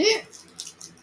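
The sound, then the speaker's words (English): A voice imitates a barn owl call to get a barn owl to answer, starting with a short, high voiced screech and trailing into several breathy, hissing puffs at a moderate level. “Barn owl sounds like this.”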